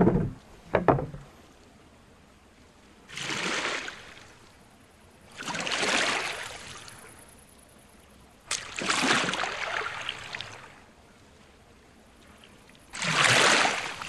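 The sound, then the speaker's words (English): A canoe paddle dips and pulls through river water in four slow, even strokes as the canoe travels along a river, each a broad splashing swish, with quiet gaps between and a brief knock at the start. “You embark and make your way back along the river.”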